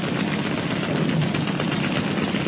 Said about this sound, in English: Roberts swung hard on the wheel, and the small boat zipped into the gap, her machine guns blazing out defiance from both sides.